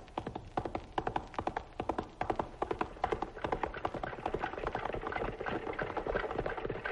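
Quick, rhythmic hoofbeats of galloping horses pound, then give way to a denser, continuous clatter and rumble of horse-drawn wagons rolling along, with no voices.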